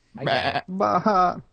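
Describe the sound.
A person mimics a goat's bleat in two quick wavering bursts, the second longer and more nasal, loud with no other sounds around it.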